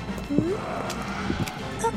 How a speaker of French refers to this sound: Qu'entends-je sourdre au loin? Sont-ce là les échos des sabots de chevaux? Ce ne peut être encore le groupe de Pécores?